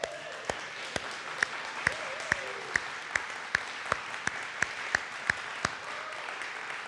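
An audience applauds to thank God for answered prayer, in a steady, dense wash of clapping, with sharp, evenly spaced claps about twice a second cutting through, and faint voices rising briefly near the start.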